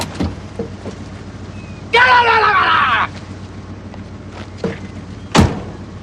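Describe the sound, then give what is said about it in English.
A car's passenger door opens with a second-long grinding creak, followed by a few sharp thumps and a hard slam as the car drives off, all over a steady low engine rumble. “Leo stalks to the passenger door.”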